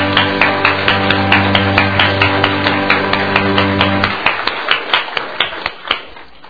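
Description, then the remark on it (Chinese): A church audience claps together in brisk, steady applause given in praise to God after a prayer. A sustained low musical tone hums beneath for the first few seconds, then drops away, leaving sharper, slightly sparser claps. “奉耶稣基督的圣名，阿们，我们一起把赞美的鼓掌都归给他。”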